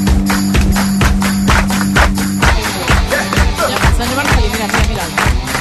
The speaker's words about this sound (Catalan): a mesura que va baixant l'edat de la gent, sí, els hi costa més la sincronia dels aplaudiments amb la música. T'has fixat que no quadrava?